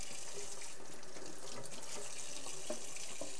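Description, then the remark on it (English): Cold tap water runs steadily into a sink with a broad hissing splash as hands are washed, with faint clinks and shifts as hands move under the stream, continuous. “We should wash your hands first.”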